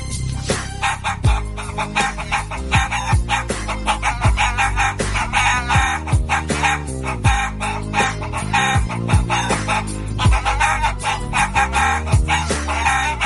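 Chicken clucks and squawks carry the melody of a rap song over a steady, punchy beat and bass line, loud and continuous throughout, with no human voice.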